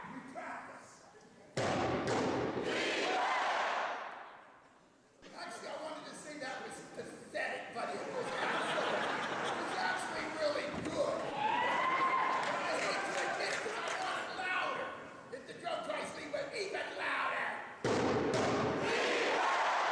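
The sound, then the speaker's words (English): Two heavy drum hits boom out, then a large group of children yells a loud, sustained cheer together, their voices filling the space for several seconds. “I'm going to hit the drum twice. Then you're going to yell Lee Webb. And it's got to be loud.”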